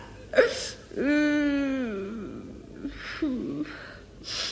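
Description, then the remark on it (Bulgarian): A girl cries and wails: a sharp gasping sob, then a long, loud drawn-out wail that wavers and falls, followed by breathy, shuddering sobs. “Но стига, стига, дъще, не плачи.”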